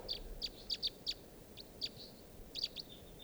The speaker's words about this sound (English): These are the wild birds. On the top of a very, very tall lodgepole pine, and I don't see them foraging or anything.